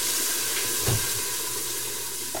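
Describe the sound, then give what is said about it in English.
Onions being browned (sautéed) sizzle steadily in a hot pan, a continuous crackling hiss with a brief louder burst of spattering near the middle. “And is that sizzle the sound you want when it hits the pan?”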